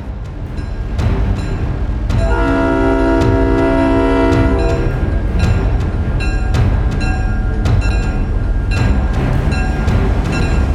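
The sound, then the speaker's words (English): A train rumbles loudly and steadily on the rails as it pulls into a station, its deep horn blaring for a couple of seconds early on, with clanking and metallic rattles repeating as it rolls in. “As we pull into Death Station.”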